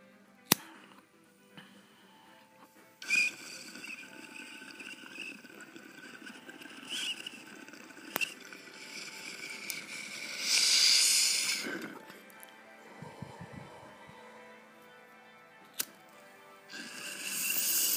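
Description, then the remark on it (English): Steady water bubbling and hissing air from a bong hit, swelling to a louder, harsher gurgle midway, then a few low glugs before settling into softer bubbling. No one speaks. “Cheers, you stoners. Bong tokes.”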